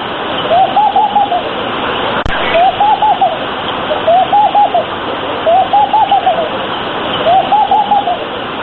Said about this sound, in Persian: موسیچه پرنده است شبیه به فاخته که بیشتر در خانه ها آشیانه می سازد